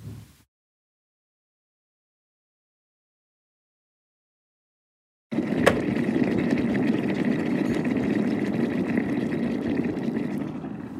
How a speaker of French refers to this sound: On dirait une bouilloire. On dirait ouais, de l'eau. Fin... Oui, c'était ça.